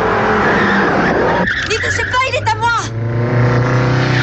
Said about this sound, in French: Alors économique, mais qui dérape bien quand même pour les Américains. Voici la R5 Turbo et son moteur mythique immortalisé dans une course-poursuite de James Bond.